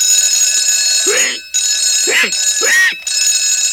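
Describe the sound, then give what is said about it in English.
A loud alarm clock named Tickety-Tock rings with a shrill, steady tone at 2 o'clock in the night, breaking off briefly twice before resuming, while a voice makes short groaning sounds over the ringing. “Why, that's no good alarm clock. Spoiling my rest.”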